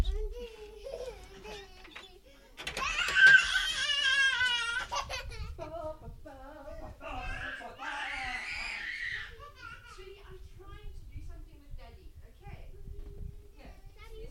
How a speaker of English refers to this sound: No, the kids have suddenly decided to start screaming and ruining the recording.